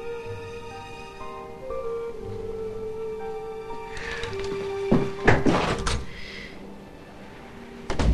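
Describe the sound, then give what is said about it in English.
A front door opens and shuts as someone heads out, with a couple of sharp clunks and a rattle midway through, set against a steady, quiet tonal hum with no talking. “heaves a sigh and heads out the front door.”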